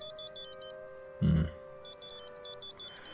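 A phone rings as someone walks out of a hospital, with a repeating pattern of high, warbling electronic tones, fairly soft and steady throughout, interrupted once by a brief low thump partway through.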